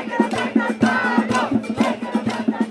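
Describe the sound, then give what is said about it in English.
A large protest crowd at a demonstration in downtown Santiago, Chile, chants and shouts together, voices surging in rhythmic waves over a steady pounding drumbeat that keeps a regular pulse throughout. “A huge demonstration in downtown Santiago.”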